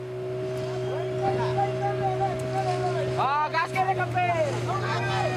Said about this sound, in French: Donc, on est sur un bateau, sans doute bien. Voilà, on est sur un bateau au large d'une île qui s'appelle Lembata, qui se situe dans l'est de l'archipel indonésien.